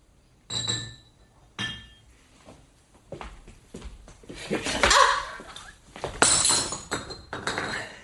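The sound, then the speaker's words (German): Two bright, ringing clinks of glass, spaced about a second apart, followed by a longer stretch of splashy, rushing noise of Scotch whisky being poured into a glass. “Schottischer Whisky, echter. Uns geht es gut, wir können uns was leisten. Wie hätten Sie ihn gern? Mit Eis, mit Soda, mit Wasser? In einem Glas.”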